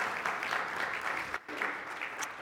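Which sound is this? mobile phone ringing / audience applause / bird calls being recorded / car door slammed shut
audience applause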